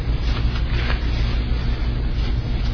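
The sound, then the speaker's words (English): Many Bible pages rustle and flip at once as a church audience turns to Luke 13 during a sermon, a soft, continuous papery wash with a few brief crinkles standing out, over a steady low hum. No one speaks. “I like to hear pages turning.”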